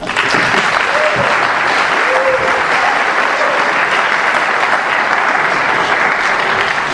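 Loud, steady applause from an audience fills the whole stretch, a dense wash of clapping hands that holds at an even level, with a few faint voices or whoops rising briefly within it.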